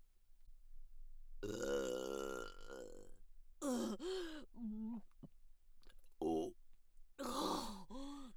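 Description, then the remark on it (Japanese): A string of loud burps caused by gas in the stomach, starting with one long drawn-out belch and followed by several shorter, croaky ones separated by brief pauses, with no talking in between. “またゲップが出てしまう。”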